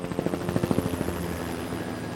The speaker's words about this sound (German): Oft bekommen die Kreuzer Hilfe aus der Luft. In langer Tradition arbeiten die Rettungsorganisationen weltweit mit Hubschrauberstaffeln der Marine zusammen. So auch in Cuxhaven. Der Hubschrauber kann als Vorhut schnell am Einsatzort sein